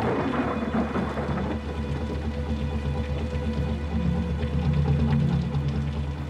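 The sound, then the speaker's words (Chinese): A heavy storm of wind and rain roars steadily throughout, with a deep, continuous rumble of thunder underneath and no voices. “船上的马达声夹杂在巨大的风雨中。”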